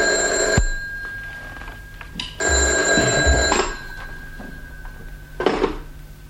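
A telephone bell rings in two long bursts separated by a short pause, bright and insistent, with no voices over it.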